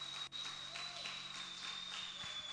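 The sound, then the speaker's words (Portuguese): A crowd applauds Jesus at a preacher's call during a sermon, a steady dense wash of many hands clapping that sounds muffled, with a faint high whine running underneath and no one speaking. “Aplauda Jesus porque Ele é digno.”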